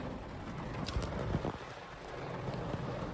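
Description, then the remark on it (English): Heavy rain pours down steadily outside a Walmart, a dense, even hiss of water with a few sharper splashes and taps standing out, with no one speaking. “It's pouring down rain out there, boys. Just a pouring down load.”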